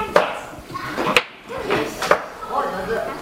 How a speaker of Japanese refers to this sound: 最初の準備として、年中年少時は玉ねぎの皮を剥き、年長時桜組の皆さんは先生に付き添ってもらいながら野菜を切る作業を行いました。